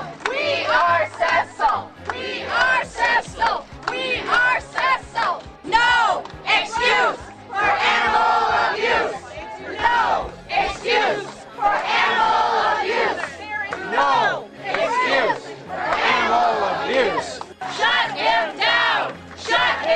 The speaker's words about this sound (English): Protesters chanting outside the office of Minnesota dentist Walter Palmer, who killed a protected lion named Cecil in Zimbabwe.